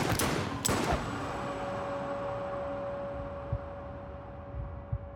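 three gunshots

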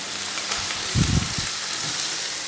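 onion sizzling

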